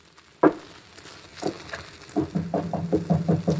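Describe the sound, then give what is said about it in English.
Knocking on a door at the end of a dark passageway: two separate hollow raps, then a quicker run of about half a dozen firm knocks, moderately loud, with no voices. “Just go up to the door, and I'll knock.”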